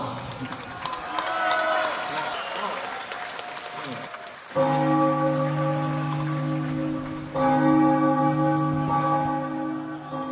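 Church bells of Prague ring out loud and resonant at dawn on 9 July 2007, during celebrations of the 650th anniversary of Charles Bridge, with two strong strikes whose tones hang and overlap, following a stretch of crowd noise and light rain.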